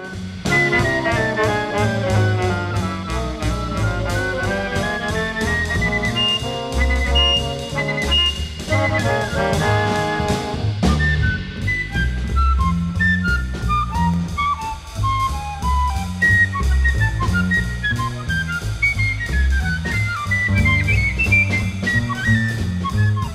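A bright, high piccolo plays quick, chirpy melodic lines like a South African penny whistle, loud and up front over a full band with bass and drums underneath, no voices.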